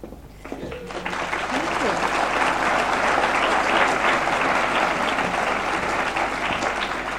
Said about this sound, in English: Thank you. You don't know how nice it is to hear some applause after some of the things I've been hearing.